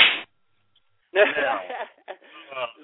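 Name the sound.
slap sound effect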